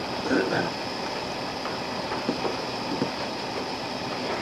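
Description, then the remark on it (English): A Peco Junior negative printer machine runs with a steady, even mechanical whir, broken by a few faint, irregular clicks; a brief muffled voice surfaces near the start. “But I said right here, there are three, these are what's called a Peco Junior printer. Mm-hmm. Is that machine running? It is running.”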